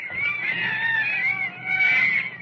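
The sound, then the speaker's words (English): Monkeys chatter in a shrill, warbling chorus of overlapping calls that runs continuously, fairly loud, with a brief dip before swelling again. No one speaks. “Oh, listen to those monkeys chatter.”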